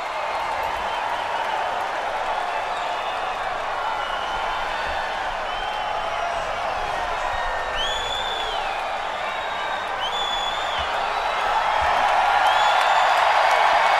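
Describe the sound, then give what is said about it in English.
A packed wrestling arena crowd roars continuously as Ric Flair comes out, a dense wall of cheering with scattered high whistles and whoops rising above it, growing even louder toward the end. “Crowd was so hot.”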